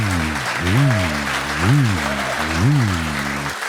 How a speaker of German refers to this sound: Dann euer Applaus für Olivers Frage